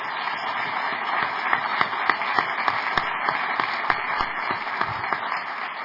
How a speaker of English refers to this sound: Can we give our panelists a big round of applause for their time today?